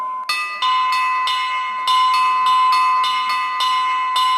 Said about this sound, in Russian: Каждый колокол выполняет свою задачу, а их взаимодействие зависит от опытной руки звонаря. Три звон. Это радостный звон. Он включает в себя звон всех колоколов.